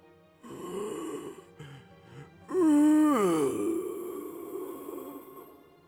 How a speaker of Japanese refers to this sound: そしてうめき声。